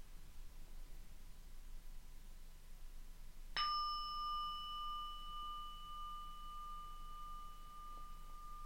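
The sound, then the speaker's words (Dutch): A single singing bowl is struck once, giving a clear ringing tone with bright overtones that sustains and slowly fades over several seconds above a soft background hiss. No one speaks. “Als je de klank hoort van de klankschaal, volg het geluid.”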